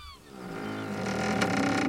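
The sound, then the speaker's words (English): Slow, groaning creaks of the timbers of the wooden sailing ship the Jolly Jack in the middle of the ocean, drawn-out and strained, swelling steadily louder with a sharper crack partway through; no voices. “and the creaking of a ship.”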